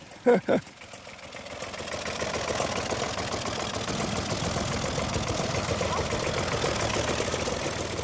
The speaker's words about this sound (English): That was back in 1962, and he still uses his tractor every day. It's a Deutsch, a German maker. So you came to Ireland and you bought a German tractor? Yeah.